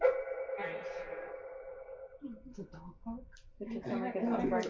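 A dog barks in a quick series of short yaps, preceded by a long, high whining tone and followed by louder, tonal vocalizing, all clear.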